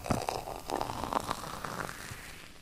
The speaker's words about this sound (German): Seht ihr? Durch den Druck hat es ein Vakuum in der Flasche gegeben und dann kommt der Schaum nach. Und jetzt kann man den schönen Schaum schön einschenken.